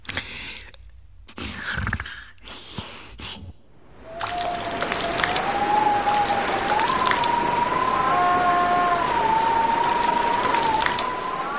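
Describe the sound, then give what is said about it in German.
Heavy rain patters steadily on a roof in bad weather, a dense hiss of drops that starts after a few sparse taps, with a thin wind tone howling in the chimneys wavering above it. “Der Regen prasselte auf das Dach, in den Schornsteinen heulte der Wind, in den Regenrinnen gluckste das Wasser.”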